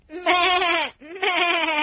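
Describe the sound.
A voice imitates a sheep, giving two drawn-out, wavering bleats back to back, loud, with a short break between them.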